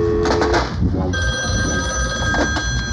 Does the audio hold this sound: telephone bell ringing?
yes